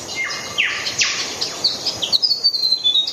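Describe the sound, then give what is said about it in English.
A New Caledonian streaked fantail's song rings out clear in a tropical mangrove forest in New Caledonia: a run of thin, high, descending whistles and sharp chirps in quick succession, with a soft background hiss of forest ambience. “The New Caledonian streaked fantail performs its own serenade from a tropical mangrove forest.”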